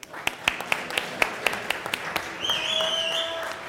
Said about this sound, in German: Niklas, ein Applaus für Niklas.